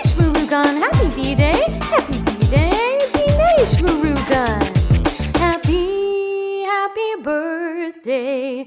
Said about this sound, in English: My dog says, whoop, whoop to you, Dinesh Murugan.